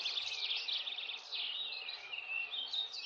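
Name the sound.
songbird singing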